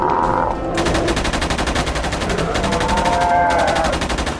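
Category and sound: sound effect, gunfire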